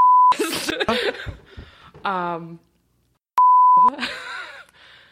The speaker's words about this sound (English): We should beep it out and then be like, "Have I said that?"